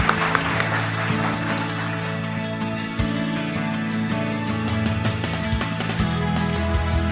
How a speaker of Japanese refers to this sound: 皆様今一度大きな拍手をお願いいたします。